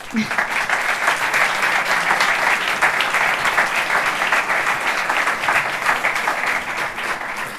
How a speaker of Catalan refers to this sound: Si us plau, donem la benvinguda amb un fort aplaudiment al senyor Albert Oliver Rodés, regidor de Cultura.